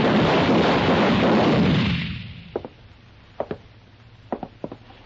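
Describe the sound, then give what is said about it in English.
Gunshots: a loud, rushing roar fades out over about two seconds, then a scattered run of sharp, short cracks follows, several in quick pairs, against a quiet background. “The little fat man was lying on his back where two of my shots had knocked him.”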